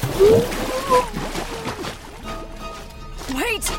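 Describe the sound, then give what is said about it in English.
Messy splashing and sloshing water mixed with muffled, wavering vocal cries and gurgles as someone struggles while being held under the water. “hold them under the water.”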